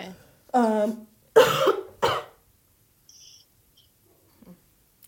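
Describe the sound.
A voiced throaty sound followed by two sharp, loud coughs in quick succession, then near silence with a faint high chirp trailing off.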